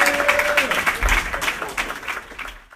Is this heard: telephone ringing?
no